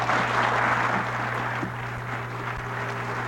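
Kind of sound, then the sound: crowd, audience applauding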